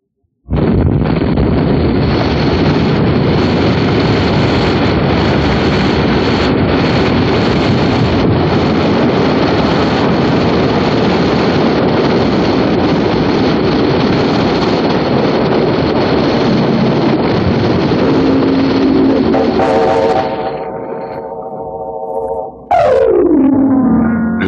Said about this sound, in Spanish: Explosión. Es como el primer disparo de una guerra sorda, oculta y extraña, que va a desatarse de manera espectacular.